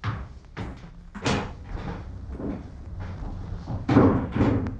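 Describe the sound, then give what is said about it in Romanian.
A director opens the door of a salon: a series of wooden clicks and rattles from the latch and hinges, ending in a heavier thud near the end. No one speaks. “Când directorul a deschis ușa salonului, au auzit o muzică minunată umplând camera.”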